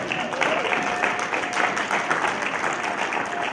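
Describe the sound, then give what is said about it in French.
An audience applauds steadily for a few seconds, a dense, even patter of many hands clapping at once with no break in the noise. “Est-ce que quelqu'un peut donner une main d'acclamation?”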